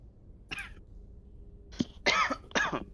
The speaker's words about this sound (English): No, I'm literally coughing. Alright. Not LARPing, calm down.